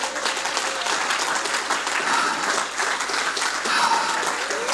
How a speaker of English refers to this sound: Oh, give the Lord a good hand clap of praise here tonight.